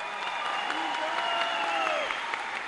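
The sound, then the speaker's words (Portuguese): An audience applauds Luiz Inácio Lula da Silva at the third National Conference on Sustainable and Solidary Development, a dense wash of clapping at an even loudness throughout, with faint cheering or whistling tones rising and falling over it. “Uma salva de palmas para Luiz Inácio Lula da Silva.”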